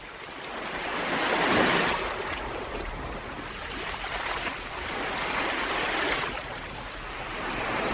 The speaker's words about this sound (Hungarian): Már közeledik a hajó, halljátok ti is a tenger zúgását s a hajó kürtjét.